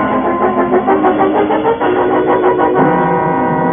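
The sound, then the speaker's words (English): A car parked outside turns over its engine, which settles into a steady, loud rumble with a pulsing rhythm, its pitch shifting slightly near the end. No voices are heard. “In the car, Cleo. It's parked outside.”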